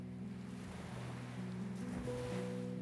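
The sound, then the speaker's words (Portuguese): Ocean waves wash steadily in a continuous surf roar, with a soft sustained musical drone humming underneath; no one speaks. “Ouça o som das ondas.”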